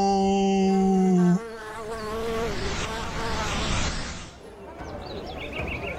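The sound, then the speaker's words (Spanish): A loud, steady insect buzz drones for just over a second, then gives way to a busier, noisier swirl of buzzing and fluttering tones that gradually fades toward the end. “Espero que desde hoy sean guardianes de las abejas.”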